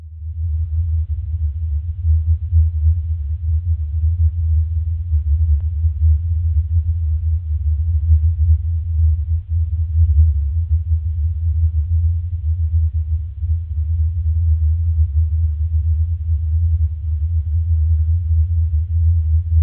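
A recording of the mysterious hum that people capture at places where UFOs are often seen: a deep, steady low-frequency hum drones continuously at an even, fairly loud level for the whole stretch, with a faint rumbling texture and no voices or other sounds.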